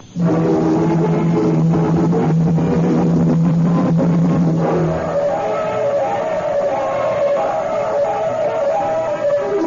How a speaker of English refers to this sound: Truck entering the alley behind the candy shop.